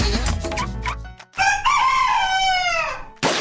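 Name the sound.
rooster crowing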